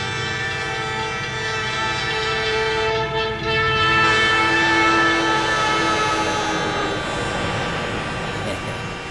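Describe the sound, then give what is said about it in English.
A voice loudly imitates a railroad crossing with a train coming, with a sustained horn-like blare and buzzing tones layered together, held steadily for several seconds with the mouth right next to someone's left ear. “I placed my mouth right next to the flap of his left ear and went into a little routine we call railroad crossing, train coming.”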